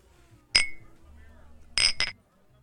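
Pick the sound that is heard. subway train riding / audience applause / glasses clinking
glasses clinking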